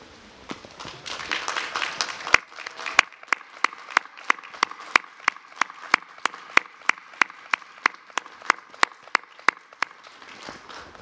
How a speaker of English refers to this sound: Let's take a moment to thank them. Candidates, would you rise and applaud those who have supported you and helped you to reach this important milestone?